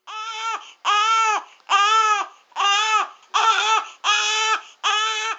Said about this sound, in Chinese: 佢哋两个突然间听到 B B 仔嘅喊声。